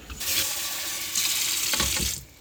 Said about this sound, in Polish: No dobra, to bierzemy dwie szklanki. I zimna woda z kranu.